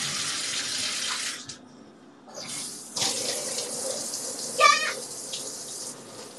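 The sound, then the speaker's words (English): Water runs steadily from a tap into a bathtub in a broad hiss, breaking off briefly and resuming with splashes and small clinks as someone rinses their body under the stream, fairly loud. “I'm just gonna rinse my body and put it on my face.”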